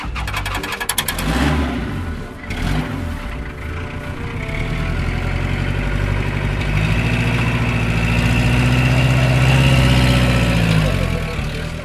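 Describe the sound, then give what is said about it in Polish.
A car full of passengers starts up with a few clicks and clunks, then its engine settles into a steady running hum that rises in pitch as the vehicle pulls away, loud. “Bo mamy już komplet w samochodzie, trzeba jechać.”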